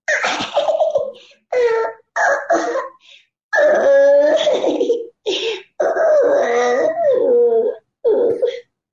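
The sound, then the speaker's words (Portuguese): A female voice actor imitates a crying baby: loud wailing bursts with wavering pitch, about seven in a row, separated by short gasping pauses, with no other talk. “E aí é uma coisa que eu fazia muito, que era só choro, né? Só o bebê chorando.”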